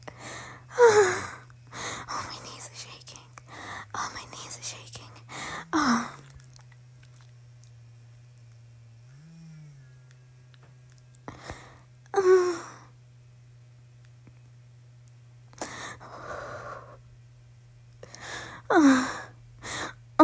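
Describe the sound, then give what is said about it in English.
Heavy, rapid breaths and gasps come in loud bursts, clustered quickly at first, then spaced out by quiet pauses, with a low steady hum underneath. “Your breathing's getting faster.”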